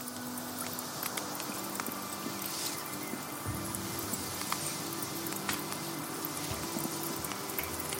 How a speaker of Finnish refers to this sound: Mä kuulen tässä tehosta kirjastosta otetun nuotiotuli äänen ja taustalla on tällainen, sanoisin, että 98 valmistettu syntikka, jossa on tällainen bad soundi.